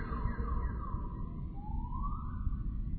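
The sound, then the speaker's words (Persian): A car alarm siren wails continuously, its pitch sweeping down and then back up in a smooth rising-and-falling tone over a steady low rumble, with no voices. “عزیزان کسی ماشینشون اینجوریه؟”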